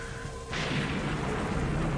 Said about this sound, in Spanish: Escuchen la tormenta. La oigo.